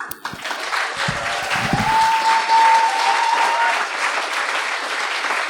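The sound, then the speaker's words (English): A large audience at a live show applauds an act steadily, a dense, sustained wash of clapping that swells in the first second or two and keeps going at full strength to the end. “A round of applause for …!”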